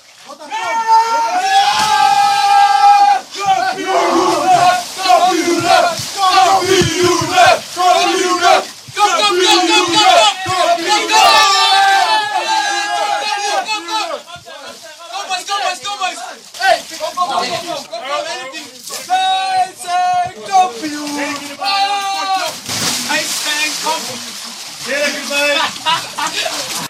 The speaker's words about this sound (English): Feyenoord celebrated the club's first league title since 1999 in a wet and wonderful collective way. More than a half dozen of the club's players carried their new silverware into a big bathtub and splashed around. Here's what it sounded like.